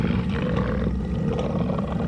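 A large black wolf baring its teeth growls from a cave surrounded by snow on a hill, a deep, rumbling growl holding steady and loud for a couple of seconds, menacing, with a low throaty roar and no voices.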